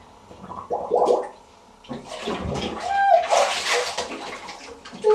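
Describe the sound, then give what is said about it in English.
Children splash water in a bathtub in several uneven bursts, with brief bright tones and some background chatter mixed in. “Wait a minute, are we starting splashing? I thought the condition was that we didn't splash.”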